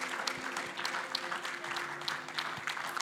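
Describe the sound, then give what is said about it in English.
An audience at a church service claps together to give the Lord a hand clap of praise, a dense, steady wash of many hands with scattered sharp claps standing out, fairly loud throughout, alongside a low sustained tone underneath and no clear talking. “Come on, would we one more time give the Lord a hand clap of praise?”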